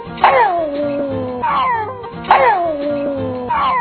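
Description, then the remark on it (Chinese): A beagle bays four times in a steady rhythm, each call a loud, drawn-out, tuneful howl-like bark that slides downward in pitch, with no voices. “无咱阁来听看米狗是安怎叫啊。”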